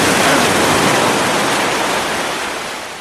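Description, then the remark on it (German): A big, fast wave of the North Sea crashes onto the shore on a sunny summer day, a loud broad roar of surf and spray that gradually eases over a few seconds. No one speaks. “Möwen und Schiffe und Wellen. Da kommt schon wieder eine. Oh, die ist ganz schön groß.”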